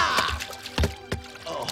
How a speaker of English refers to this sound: That was neat, Mr. Walton. I've never seen someone jump straight up and land in a bucket of water before.